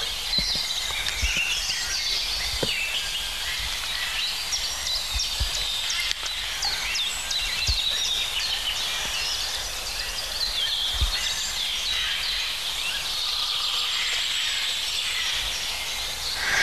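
A green woodpecker calls within a dense outdoor bird chorus, its cries mixed among steady chirps and twitters over a faint hiss, with no one speaking.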